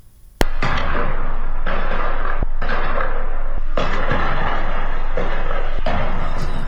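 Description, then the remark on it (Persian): Several sharp, loud cracks of gunfire and explosions ring out at irregular intervals around a prison where citizens have gathered, over a dense, continuous wash of outdoor crowd and street noise. “در برخی ویدیوها نیز صدای تیراندازی و انفجار در اطراف زندان شنیده می شد.”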